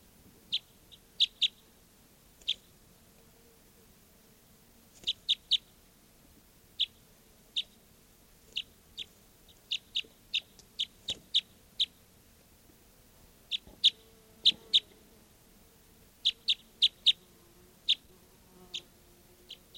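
A bird chirps in short, sharp, high-pitched notes, often in quick pairs or triplets, spaced irregularly over a faint low background hum, with no voices.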